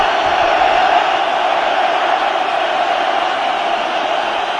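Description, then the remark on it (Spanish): A large stadium crowd at a football match between Atlético and Málaga roars and shouts as the players leave the pitch, a steady, dense wall of voices, loud and unbroken throughout, with no single voice standing out. “Bueno, gritos de fuera a fuera, sin ningún tipo de incidente mayor en la retirada de los jugadores, ni tampoco, por supuesto, del trío arbitral.”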